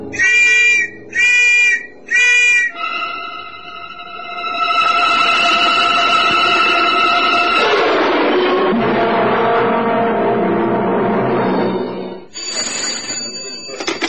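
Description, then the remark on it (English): An old man blows his whistle as he runs out into New Care Road: three short, shrill, warbling whistle blasts in quick succession, then a long sustained whistle that fades into a rough, noisy clatter, with a brief high tone at the end. “He immediately tears the tape from across his mouth, gets to his feet, and runs out into New Care Road, blowing his whistle as he goes.”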